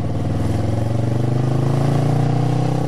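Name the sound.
motorcycle engine revving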